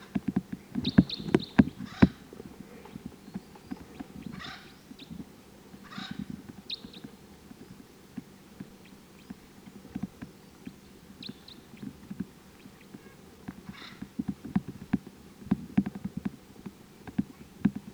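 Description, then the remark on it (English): A wild bird gives short, sharp chip calls while decoy birds are also calling, repeated irregularly every second or two, fairly faint over a low rumbling, knocking background with no talking. “This is the wild bird.”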